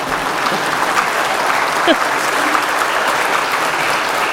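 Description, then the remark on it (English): An audience at Mass applauds: dense, steady clapping from many hands keeps up at an even, fairly loud level for about four seconds, with no break and no clear single claps standing out. “My last church did not clap for me, and I did not deserve applause.”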